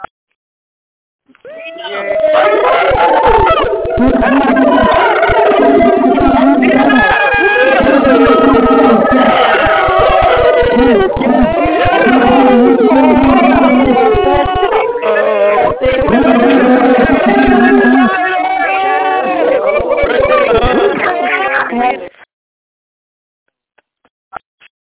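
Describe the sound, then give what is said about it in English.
A loud, sustained jumble of many excited callers cheering and whooping over phone lines after the host unmutes the phones, with a thin, band-limited telephone quality, running about twenty seconds before cutting off abruptly. “my friend, if that excites you, go ahead and let us know how excited you are when I unmute the phones right now.”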